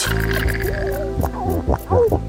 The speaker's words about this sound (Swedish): Sälar som knorrar.